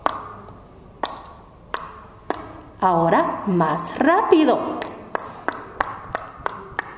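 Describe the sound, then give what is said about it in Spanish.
Sharp tongue clicks imitate a horse's hooves walking during a Xinka language lesson: a slow, steady series of single pops, briefly interrupted by a spoken phrase, then resuming at a quicker pace. “Vamos a imitar el sonido cuando camina o corre un caballo. Lo hacemos con nuestra lengua.”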